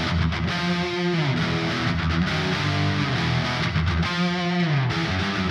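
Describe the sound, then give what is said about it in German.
Two electric guitars play together, each with its own cross-panned reverb (dry signal on one side, reverb on the other), a very bright, washy reverb; a dense, steady, gritty chord texture that rings continuously and loudly for several seconds with no one speaking. “Zusammen klingen die beiden Gitarren dann so, jeweils mit ihrem Kreuzhall draufgelegt.”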